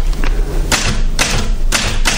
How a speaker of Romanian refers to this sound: până să plec scriem la mașină atâta